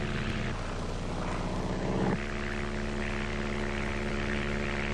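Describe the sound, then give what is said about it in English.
A small propeller plane flying over rainforest, one of two small planes, drones steadily and loudly with a constant buzzing hum and a slight shift in pitch partway through; no one speaks. “The shadows of our two small planes fall on rainforests which hide villages where the 20th century does not exist.”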